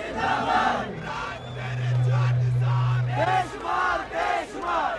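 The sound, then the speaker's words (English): A large crowd at a political rally in Swat Valley, Pakistan, chants and roars in rhythmic waves, loud, many voices shouting support together in unison with a steady low hum running beneath the din. “In Swat Valley this past week, like Lahore the week before, he drew enthusiastic crowds who chant unswerving support.”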